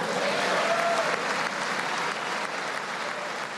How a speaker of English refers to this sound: Republicans greeted his remarks with applause, cheers, and standing ovations. Many Democrats sat in the audience grim and quiet.